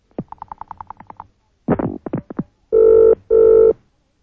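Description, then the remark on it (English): A quick series of clicking pulses and a few clattering bursts, then a telephone in a call box at the BBC rings twice in a loud, buzzing double ring during a Christmas phone-in, with no voices. “Will you answer the bloody phone?”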